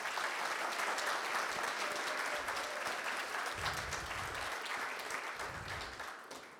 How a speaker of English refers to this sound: So I think we should give them a round of applause. What do you think?